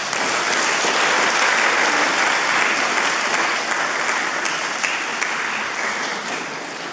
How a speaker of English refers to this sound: Round of applause.